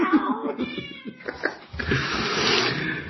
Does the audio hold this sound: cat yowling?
yes